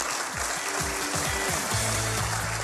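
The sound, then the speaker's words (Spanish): An audience at an inauguration applauds steadily throughout, a dense, continuous wash of clapping at moderate loudness, with faint low tones humming underneath. “Así que también un aplauso para ellos.”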